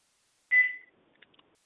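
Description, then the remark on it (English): A single short electronic chirp, bright and fairly loud, fading quickly, followed by a few faint clicks and small rustles in an office: a device's low-battery beep signalling that its battery needs changing. “That was the little it's telling me it needs its battery changed.”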